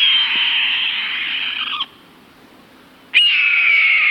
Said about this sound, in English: you happen to glance up to an overhead light post where a large hawk sits in plain view. It's brown, somewhat mottled. A small head and short tail make it appear football-shaped. It's a red-tailed hawk.